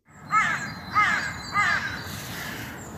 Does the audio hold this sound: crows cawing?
yes